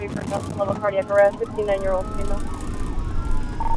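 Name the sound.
ambulance siren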